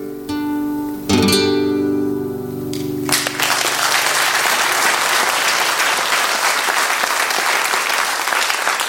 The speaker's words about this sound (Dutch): Bedankt voor de klappen.